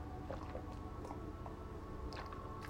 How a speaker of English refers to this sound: Wait, I have to have a sip of coffee. Sorry. I'll be right there in 1 second.